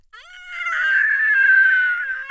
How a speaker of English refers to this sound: This scream ricocheting around the camp.